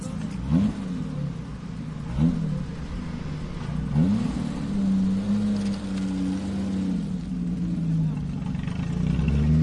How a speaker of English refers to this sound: you're listening to the sounds of one of the many classic cars in Paris for Retromobile, an exhibition at Porte de Versailles.